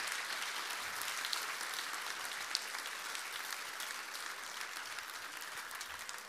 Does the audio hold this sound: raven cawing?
no